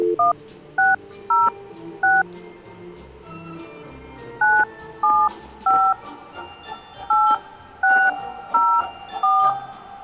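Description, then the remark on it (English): Telephone keypad tones beep out a number to call a contest winner on a radio Santa Hotline, about a dozen short, clear dual-tone presses in uneven bursts with brief pauses, over a faint low background hum. “We've cranked the numbers, and we've come up with a winner, but now we got to get a hold of him or her.”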